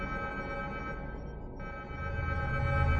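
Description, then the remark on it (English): A shrill, steady electronic evacuation alarm aboard a Star Destroyer blares with layered high tones and echoes down the halls. It cuts out for a split second midway, while a low rumble swells beneath it toward the end. “The shrill sound of the evacuation alarm echoed down the halls, the death scream of a doomed ship.”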